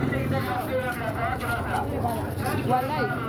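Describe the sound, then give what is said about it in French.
A busy outdoor market during the fasting period: a dense hubbub of overlapping voices and vendors calling out as they sell tomatoes, onions and potatoes, over a steady rumble of motorbike and tricycle engines, continuous throughout. “Le bruit des motos et des tricycles se mêle aux éclats de voix des marchands qui vendent leurs produits.”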